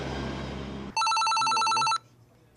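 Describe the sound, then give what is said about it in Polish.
A telephone rings with a listener's call to a radio programme, in one sustained electronic burst of about a second, a bright warbling tone with stacked harmonics, following a stretch of low rumbling background noise. “To znaczy, kiedy mam telefon od słuchacza, że coś się dzieje tu i teraz,”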